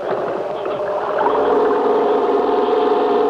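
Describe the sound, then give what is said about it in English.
A small portable generator, pull-started with a rope as it gets dark and powering a searchlight, drones steadily, its rough motor hum swelling slightly louder partway through and then holding a constant, buzzing pitch with no voices. “It was getting dark by the time we had everything connected and the generator ready to go.”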